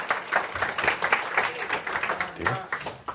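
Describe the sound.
Steady clapping from an audience, a dense patter of many hands lasting a few seconds, with voices mixed in underneath.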